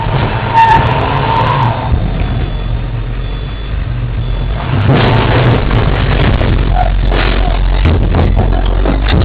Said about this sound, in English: As the Ford F-250 truck leaves the store, the engine's heard revving up outside